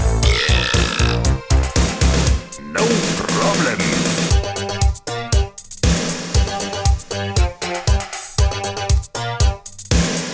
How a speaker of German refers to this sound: Ich mach jetzt ein Bäuerchen.